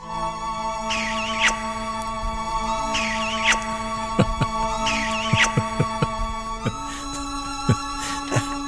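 A wet, drooly kissing smack repeats three times at an even pace over a humming, sustained music bed. Sharp clicking percussion follows near the end.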